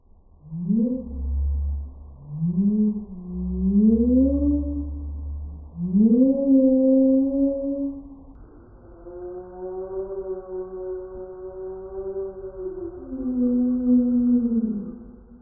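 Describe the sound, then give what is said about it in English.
A slowed-down recording of a siamang's call in the forest, turned into deep, whale-like moans: a series of rising, swooping tones followed by a long sustained wail, loud and continuous with no talking. “And here's the slowed down version of this recording.”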